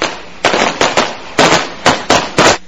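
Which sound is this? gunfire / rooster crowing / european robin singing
gunfire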